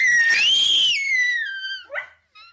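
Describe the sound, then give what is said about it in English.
A dog howls in a high, wavering tone together with a crying baby boy, loud, the long wail sliding up then down before trailing into a brief yelp and fading. “some harmonious singing from Sarah's human son and dog son, both at some points together”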